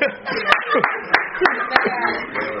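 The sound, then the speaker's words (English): Sharp, loud audience claps land roughly every third of a second, about five in a row, over a steady bed of overlapping voices and murmuring. “I'm sorry, because you clap.”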